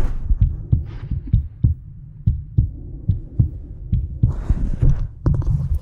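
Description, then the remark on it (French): A steady heartbeat with sharp metallic clicks from a new mechanical heart valve on each beat, fairly loud, over a low muffled thumping; a soft breathy hiss, a slight wheeze in the bronchi, rises briefly near the end. “Bon, ça siffle encore un peu dans les bronches, et puis ça claque, votre nouvelle valve.”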